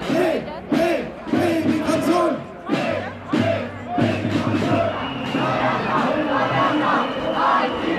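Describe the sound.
Several thousand counter-protesters with balloons chant in unison against right-wing extremists, loud rhythmic shouted phrases repeating with brief pauses between bursts, followed by a sustained roar of many voices.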